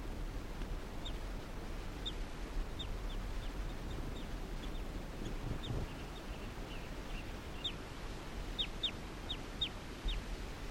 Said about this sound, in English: Recording, this is bird 338 calling softly in response to the wild bird.